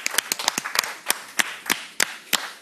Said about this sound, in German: Schön, dass meine Gäste da sind und schön, dass ihr, dass das Publikum auch hier ist. Applaus für euch. Vielen Dank.